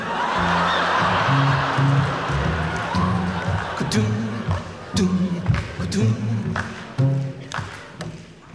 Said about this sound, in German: Schnippen, habe ich gesagt, nicht klatschen. Oder hast du so breite Finger?